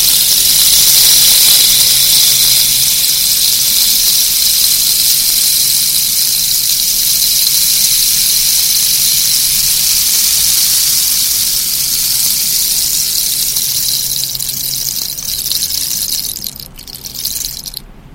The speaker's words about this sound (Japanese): ではここで雨乞いの楽器、レインスティックの音色をお聞きください。